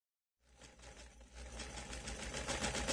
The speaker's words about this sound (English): Hey, what are you sewing? I'm making a dress for the party.